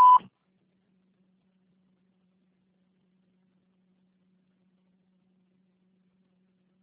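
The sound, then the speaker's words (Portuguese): A single short electronic beep at a steady mid pitch, the voicemail tone, lasting a fraction of a second and followed by several seconds of near silence with a faint low hum. “deixe sua mensagem após o sinal.”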